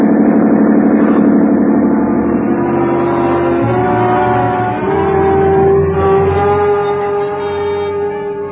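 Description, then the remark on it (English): A police motorboat engine runs steadily and loudly throughout, a continuous droning hum with a slight shift in pitch partway through and no voices. “Isn't much when a schooner with auxiliary power is matched against a police boat.”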